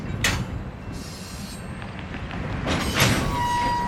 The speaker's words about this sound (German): The locomotives that you see straight north of us pushing the tank cars up on top of the hill, that's the westbound hump.